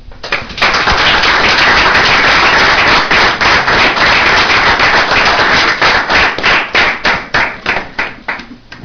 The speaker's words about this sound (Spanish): Hay que dar un aplauso a todos los psicólogos.